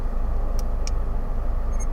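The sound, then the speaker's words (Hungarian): Two quick clicks as a button on a small watch is pressed to stop an in-car camera's interior recording. Then a short, faint, high-pitched electronic beep comes from the camera, all over a steady low rumble of a running car engine. No one speaks. “Hallottad? Aha, csippant.”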